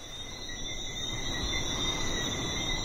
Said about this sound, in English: And when it gets dark out, it's so tranquil. There's just the sound of the breeze and these little frogs that come out at night and chorus all over the island. They're so loud that I can hear them through the phone when I'm talking with my parents.